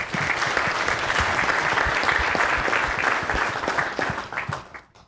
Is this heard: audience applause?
yes